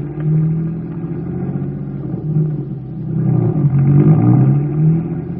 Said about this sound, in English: Get the car going. Let's get there.